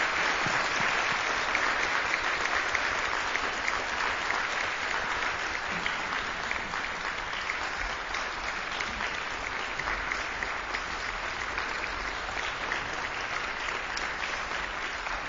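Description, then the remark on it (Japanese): Sustained applause from a large audience after a trumpet performance, a dense, steady patter of many hands clapping at an even loudness from start to finish with no voices standing out. “大きな拍手をお願いします。”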